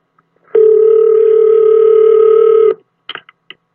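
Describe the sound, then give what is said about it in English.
A single steady, mid-pitched ringback tone of an outgoing phone call placed from a car service garage drones loudly for about two seconds, then stops, followed by a few quick clicks on the line. “All right, so I'm calling from the garage where she's having her car serviced.”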